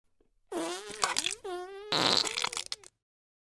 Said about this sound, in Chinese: 趴在地上等着，我现在翘起了高贵的翘臀，在地上拉一泡屎。